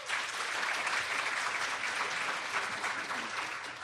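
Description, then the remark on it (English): An audience applauds steadily for about four seconds in response to a survey question, a dense, even patter of many hands clapping with no pauses and no voices standing out. “All right, we have a lot of people who don't like to clap.”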